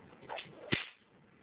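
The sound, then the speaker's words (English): A single sharp crack of a newly made bullwhip being tested, preceded by a brief swish as the lash swings through the air, then quiet. “Just to show that this cracks.”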